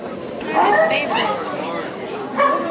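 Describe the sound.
An Irish wolfhound barks a few times at a dog show amid a busy crowd, with voices chattering and overlapping the barks throughout.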